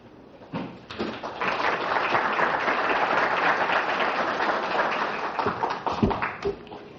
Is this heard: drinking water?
no